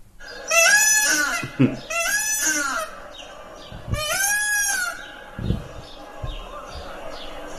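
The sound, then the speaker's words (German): Loud, harmonic calls of an exotic zoo bird ring out in three long, wavering bursts, each a rising-and-falling drawn-out cry, with brief pauses between and faint background noise. “Ja, das ist wieder typisch, dass Vögel einen so ja auch in so eine Umgebung schleudern”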